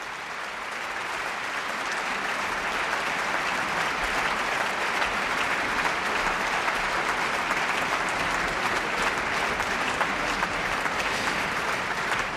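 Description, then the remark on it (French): Sustained applause from a large concert audience at the Victoria Hall in Geneva, a dense steady clatter of many hands clapping at even loudness throughout, with no voices standing out, as the second snare drummer stands during Ravel's Boléro. “c'est donc la caisse claire, et c'est à l'instant le deuxième caisse claire qui se lève et qui est applaudi par le public puisqu'il est rejoint le premier caisse claire qui lui joue depuis le début.”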